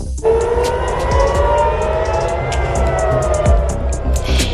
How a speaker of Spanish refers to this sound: Ruidos de sirenas que se han escuchado toda la noche en las ciudades israelíes de Tel Aviv y Jerusalén.